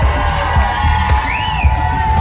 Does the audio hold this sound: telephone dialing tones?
no